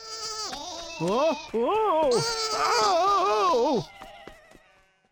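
A small lamb on a farm, being given lettuce, bleats three or four loud, quavering cries in quick succession, then fades into faint background noise.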